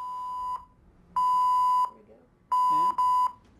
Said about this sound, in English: Yeah. Fire, fire, fire. That's what that means. Three tones is fire.